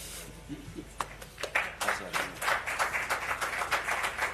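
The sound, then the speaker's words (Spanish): A crowd at an FC Barcelona event applauds the club president's speech as Xavi Hernández hugs him, sparse claps at first that quickly swell into a steady, dense patter of many hands clapping together, with a faint murmur of voices underneath. “Y entre esos aplausos abrazaba a Xavi Hernández al presidente para que acabara su discurso.”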